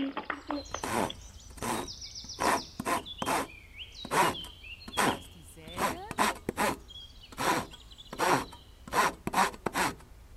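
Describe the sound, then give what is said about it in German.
A hand saw cuts through wood in steady, rasping back-and-forth strokes, about a dozen in a regular rhythm, fairly loud, with faint bird chirps in the background. “Nimmst du auch Sägen? Ja, Sägen oder Hämmern.”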